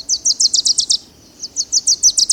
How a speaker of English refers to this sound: Young male warblers, fledged in June or July, have been learning their father's songs all summer. Next spring, they will sing these songs too.